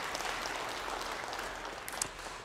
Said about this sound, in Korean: 우리 격려와 축복과 사랑의 박수 옆에 분들에게도 한번 해주시겠습니까?